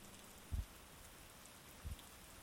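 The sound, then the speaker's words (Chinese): Quiet, steady rain patters on a surface on a rainy night as a soft continuous hiss, broken by two dull low thumps, like heavier drops landing. There is no thunder, and no one speaks. “没有雷声，非常的安静，只有雨点的声音。”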